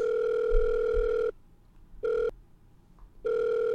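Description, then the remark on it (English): An electronic phone ringing tone sounds in steady bursts separated by short silences, one long tone, a brief blip, then another long tone, loud and clear with no voices. “Dude, it sounds like he's like, okay, I'll be on the phone. Okay. Give me a ring.”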